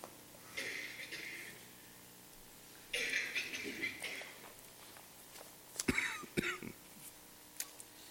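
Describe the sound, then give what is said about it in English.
Someone coughs and clears their throat several times in bursts, with short raspy hacks and breathy rumbles, separated by brief pauses. “I'm coughing now, too.”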